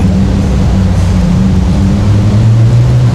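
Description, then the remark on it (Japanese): A loud modified yankee-style car roars past under a railway overpass, its deep engine drone holding steady low tones that slide slightly lower partway through, filling the whole few seconds with heavy rumbling noise and no voices. “今ものすごいヤンキーの車が通って。”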